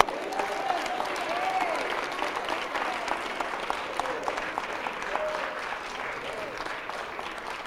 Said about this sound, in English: Now receive it. Clap your hands.